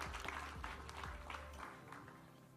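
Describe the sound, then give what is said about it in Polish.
Steady audience applause for the team of the Zespół Szkół Ekonomicznych school in Gorzów Wielkopolski, a dense wash of many hands clapping at an even, moderate loudness throughout, with a faint low rumble underneath that drops away partway through. “Wielkie brawa.”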